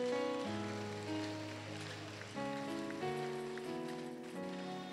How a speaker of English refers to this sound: Once again, appreciate Jesus by clapping your hands.